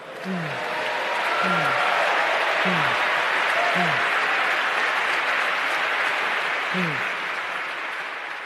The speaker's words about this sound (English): Now, I wanted you to hear the applause that she received for that ridiculous line. I also want you to note how Ta-Nehisi Coates is just affirming, like amen and with a mumble.